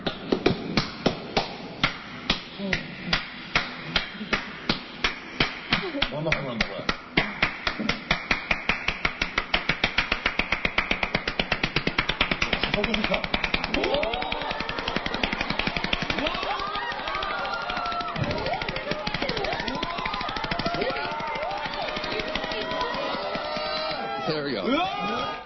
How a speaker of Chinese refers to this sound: 好，我们现在一起欣赏这位全世界拍手冠军，他是怎么拍手的？